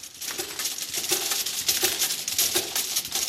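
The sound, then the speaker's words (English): Thumbnail-sized glass vials clink and tick continuously through a labelling machine at Allergy Therapeutics in Worthing, on the south coast of England, a dense, bright jingle of rapid chiming taps over a steady mechanical whir, with no voices. “The sound is of glass vials the size of a thumbnail being put through a labelling machine at Allergy Therapeutics in Worthing.”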